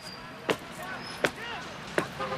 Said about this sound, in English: You mean like this? Louder! Stomp your feet! I can hear the noise. I'll follow you.